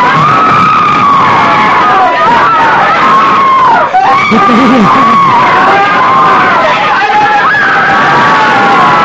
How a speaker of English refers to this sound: I'm going to tell you, it's a sad day when a man passes God's own signs and goes to hell. Listen to him scream one more time.